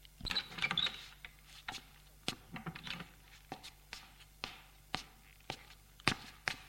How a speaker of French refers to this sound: L'on frappe à la porte. Entrez.